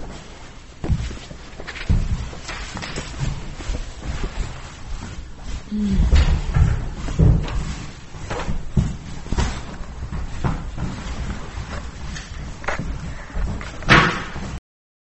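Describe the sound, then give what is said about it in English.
Chairs being stacked, with scattered knocks and wooden clatter over a steady background of shuffling footsteps and movement in a room, plus a few heavier thuds including one near the end. “If you would stack the chairs, that'd be great.”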